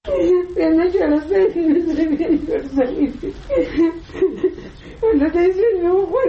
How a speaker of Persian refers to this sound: صدای گریه یکی از مادرانی که فرزندش توسط نظامیان استرالیایی به قتل رسیده است.